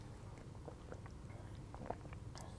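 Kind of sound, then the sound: food or drink, sipping coffee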